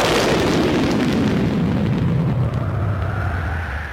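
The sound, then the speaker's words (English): A loud crack of thunder rolls into a deep, continuous rumble that stays heavy for several seconds and then begins to fade slightly. No voices are heard. “And at that moment, they heard the crack of thunder, followed by a voice.”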